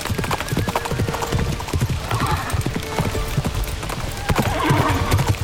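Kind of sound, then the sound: animal, horse hooves galloping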